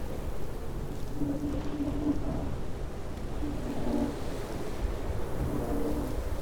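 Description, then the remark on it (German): Heavy rain pours steadily with a deep, rolling rumble of thunder beneath it, a dense, continuous wash of sound that stays loud throughout with no voices. “Eines Tages kam ein starker Regen und ließ den Fluss gefährlich anschwellen.”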